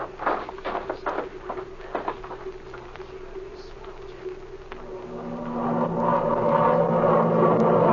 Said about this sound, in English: There comes one of our planes. Yeah, you're right, it is. And there's another following him.